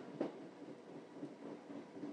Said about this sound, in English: There's plenty of clunkety noise coming from outside. Some of the plastic linings, fittings of the carriage are creaking a bit.